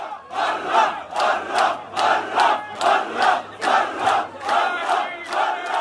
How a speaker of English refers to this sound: several senior members of the authority, you know, people in the president's inner circle, went to Jenin to pay their respects to the families and inspect the damage, they were basically booed out of town by really, really angry crowds of young men.